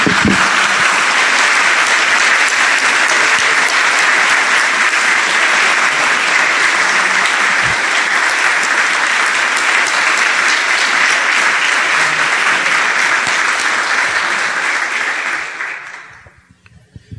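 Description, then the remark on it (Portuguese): An audience claps loudly and steadily for about sixteen seconds, a dense unbroken wash of many hands, before the applause quickly fades out at the end. “Vamos bater palmas para aquele que é o autor disso.”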